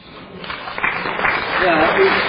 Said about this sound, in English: I'm glad that there is some applause for that, because it sounds strange after what we've been through for the last 6 years.